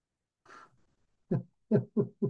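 A breathy intake, then a brief pause and four short, low, voiced bursts in a quick uneven rhythm, like a drawn-out yawn broken into moaning, hoot-like sighs. No talking.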